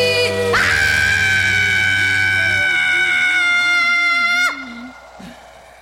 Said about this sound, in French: Je te crie dans un grand cri.